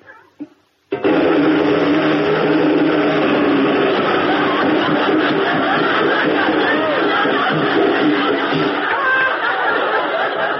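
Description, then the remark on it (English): A voice imitates a riveter's hammer with a loud, continuous rapid rattle that starts abruptly after a short pause and keeps up steadily for nearly ten seconds. “A riveter's hammer.”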